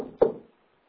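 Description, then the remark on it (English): A single dull knock on a wooden door, short, followed by a brief fading resonance and then quiet. No voices are present. “And when he came, he knocked on her door.”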